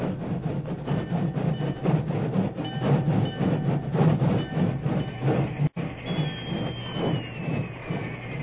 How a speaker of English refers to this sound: It was only a short time later, and the rain was barely a drizzle, when an engine whistle announced the work train's arrival on the main track beside the Medicine Hat telegraph station.